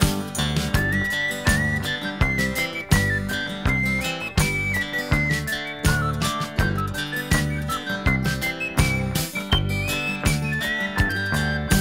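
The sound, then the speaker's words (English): A person whistles a bright, wandering melody over an upbeat band with a steady thumping beat and bass, the whistle clear and up front throughout. “Then we'll whistle and go fishing in heaven.”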